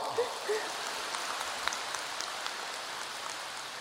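Steady applause from a crowd: a dense, even crackle of many hands clapping at once, holding at a moderate level for a few seconds with no voices over it.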